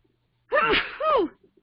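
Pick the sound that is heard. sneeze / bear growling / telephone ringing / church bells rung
sneeze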